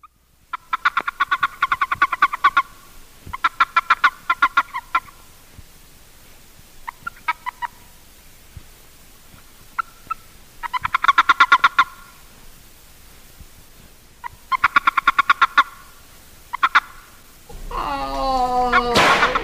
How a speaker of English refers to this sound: This is a warning chirp of the boreal toad, Bufo boreas, a species that has no mating call but still utters a warning chirp if seized by another male.